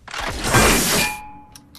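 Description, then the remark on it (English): A futuristic power tool shoots a rivet through the damaged hull of the Lewis and Clark: a harsh, loud burst of mechanical noise slams out for about a second, then a thin metallic ring fades away, followed by two quick sharp clicks. “A futuristic power tool shoots a rivet through the damaged hull of the Lewis and Clark.”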